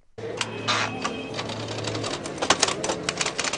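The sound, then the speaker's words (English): Mechanical typewriters of street scribes clack in quick irregular bursts on the Santo Domingo Plaza in Mexico City's historic center on a quiet Sunday morning, with a low steady hum underneath and a faint murmur of outdoor background. “Here on the Santo Domingo Plaza, in the heart of Mexico City's historic center, the clack of typewriters attracts few clients on this quiet Sunday morning.”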